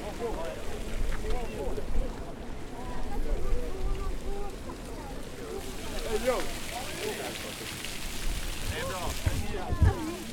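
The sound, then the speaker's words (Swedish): Water and fish gush steadily out of a pipe from a truck straight into a stream in a loud, continuous rush, with wind buffeting and people talking over the splashing flow, as young salmon and trout are released. “Luckorna öppnades och ett rör placerades från lastbilen rakt ut i strömmen där fiskar och vatten verkligen strömmade ut.”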